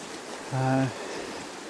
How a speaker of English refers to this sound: And the stream is up, quite swollen because it's been raining quite a bit, along with some pretty strong winds over the last few days.